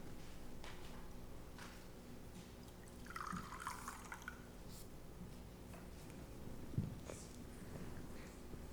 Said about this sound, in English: In the communion meal, wine poured out.